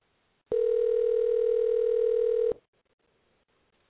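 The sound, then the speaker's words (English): A telephone call rings before reaching an answering machine: one loud, steady, mid-pitched electronic tone holds for about two seconds, then cuts off into near silence, with no voices. “I think you can all hear it ringing.”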